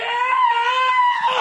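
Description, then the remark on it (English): A man's voice imitates the yell of pain he let out as Bruce Lee was running at him: one sustained, high, strained wail held steadily for over a second, loud and harmonically rich, with no other talking. “Is, you know, the only thing funnier than that would be the yell that I let out as Bruce Lee was running at me.”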